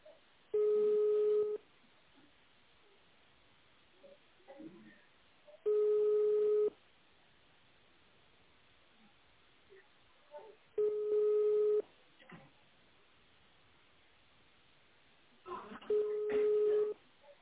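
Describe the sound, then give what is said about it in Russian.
A telephone line rings back four times after an employee's internal extension is dialed through a company's automated phone menu, each steady tone lasting about a second and spaced roughly five seconds apart, with faint line noise between and a few quick dialing beeps near the end. “Если вы знаете внутренний номер нужного вам сотрудника, наберите его и дождитесь ответа телефона.”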